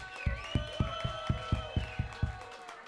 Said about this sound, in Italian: Un applauso fortissimo a conquista.